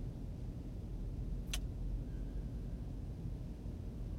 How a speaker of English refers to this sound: Okay. Time to drive a car and listen to garbage.